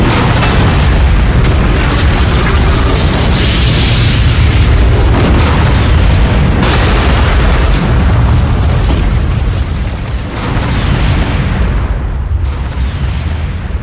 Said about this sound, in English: The hyperdrive kicked in and it entered the warp bubble that had no beginning and no end. The resultant release of energy had nowhere to go except outwards in a gigantic explosion.